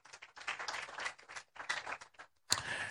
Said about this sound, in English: Rise to your feet. Rise to your feet. Those of you clapping, you can clap well.